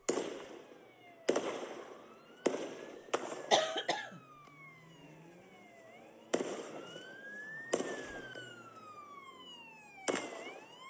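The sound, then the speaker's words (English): Loud, sharp gunshots from a gunman on a bridge in Australia shooting at people ring out one at a time at irregular intervals, about eight in all, each with a short echoing tail, while people run in the background and wailing siren-like tones rise and fall. “You hear the gunfire, and the people are running in the background.”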